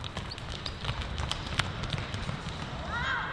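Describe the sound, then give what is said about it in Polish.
Quick, rhythmic footfalls of athletes doing skip A drills toward the middle and skip C drills on the way back, a steady patter of light thuds over a low outdoor rumble and faint background voices. “Do środka zaczynamy ćwiczenie. Skip A, wiemy jak to wygląda. Z powrotem wracamy skipem C.”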